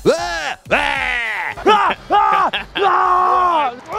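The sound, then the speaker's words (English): A man yells loudly in about five drawn-out, wordless bursts, his voice swooping up and down in pitch with short breaks between shouts: quarterback Mahomes yelling to hype himself up as he runs out of the tunnel. “And then as I yell, I get myself more hyped.”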